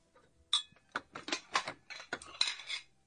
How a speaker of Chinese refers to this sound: 哎呦，这么多碗筷可真沉呐。